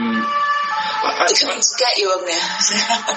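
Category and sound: vehicle, fire engine siren passing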